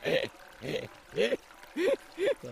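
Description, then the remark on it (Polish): Five rhythmic splashing sloshes, about half a second apart, like the steady steps of someone wading through water, moderately loud with no talking. “Bardzo brnie przez wodę.”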